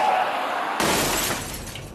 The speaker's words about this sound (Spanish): Sube su coche y a toda velocidad choca contra el muro de contención del periférico.